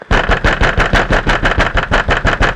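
A car engine runs loud, throbbing in a rapid, steady pulse of about six beats per second, with no voices over it, as the car speeds along a road.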